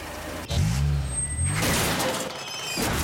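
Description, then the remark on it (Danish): A car scrape sound effect depicting a car getting scratched: a low engine rumble starts with a sudden jolt, then a loud, harsh grinding hiss of metal dragging along, with no voices. “En skramme er kun skræmmende, hvis du ikke er ordentligt forsikret.”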